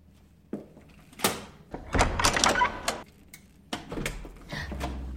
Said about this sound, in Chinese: 啊！终于开门了！你这个小子！给妈妈开门啊！